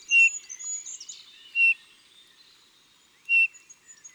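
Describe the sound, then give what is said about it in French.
A single plaintive bullfinch call note, heard in woods in November, whistled three times at uneven intervals, each one short and fairly high, with soft twittering from other birds in the background between calls. “Une seule note, répétée plus ou moins régulièrement, à la tonalité un peu mélancolique, avec de temps en temps une note plus grave.”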